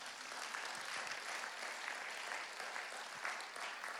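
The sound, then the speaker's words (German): A crowd applauds steadily, many hands clapping at once in a dense, even patter that holds at a constant level for the whole stretch without pausing or building. “Wenn einer klatscht, klatschen alle.”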